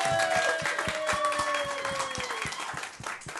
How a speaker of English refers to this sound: So, by applause, who thinks Andy is being the best sidekick?